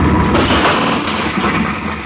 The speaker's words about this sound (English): What happened? Who tosses a bomb at us?